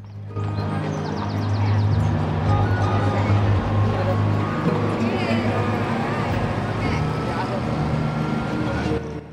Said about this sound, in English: The bus drives into the small town of Aqua Verde.